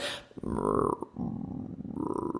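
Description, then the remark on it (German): A voice imitates growling bowel sounds, a low throaty rolling gurgle sustained for a couple of seconds with wavering pitch, fairly loud, with no words spoken, as demonstrated to patients. “Ja, und natürlich bedeutet es nicht jedes Mal, wenn man diese knurrenden Darmgeräusche hat, also dieses, ich mache das dann nochmal meinen Patienten vor, ja, damit bitte?”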